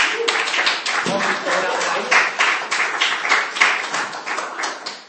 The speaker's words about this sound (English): Give her a little round of applause.